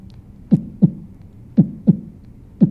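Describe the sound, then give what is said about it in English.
A soft, low heartbeat rhythm made with the voice by forcing air back into the throat, paired thumps repeating steadily, muffled with no other sounds around it; a subtle vocal percussion heartbeat for the background of a song as it fades out. “then I put in just like a little really subtle heartbeat that's kind of going in the background as the block is fading out and the soloist is singing the last few lines.”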